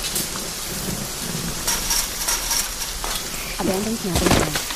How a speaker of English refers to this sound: Here we are in the campground. It's very muddy because it's raining.